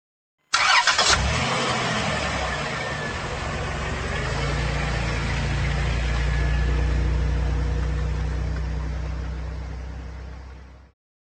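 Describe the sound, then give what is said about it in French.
A minivan engine cranks and starts with a brief burst, then settles into a steady, low rumbling idle that holds for about ten seconds before cutting off. “I can hear a minivan.”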